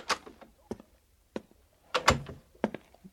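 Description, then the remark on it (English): A series of sharp wooden thunks and clunks at irregular intervals, like a door being knocked on and handled as someone arrives at the door, moderately loud, with no voices. “There is someone at the door to see you.”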